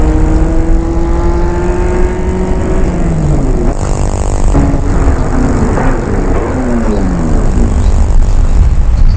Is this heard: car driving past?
yes